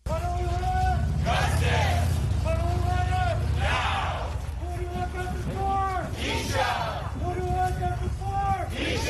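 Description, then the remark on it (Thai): A large protest crowd marching on Tierra Vista and Encanto streets in San Francisco, California, shouts for justice in unison outdoors, repeating a chant in rhythmic bursts every second or two over a steady, loud background hubbub of many voices. “เสียงผู้คนร่วมตะโกนเรียกร้องความยุติธรรมระหว่างการชุมนุมเดินรณรงค์บนถนนเทียร่าวิสตาและถนนเอ็นคานโต”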